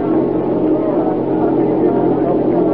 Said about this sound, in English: there's a car approaching. Well, whoever he is, he's a fool driving with lights.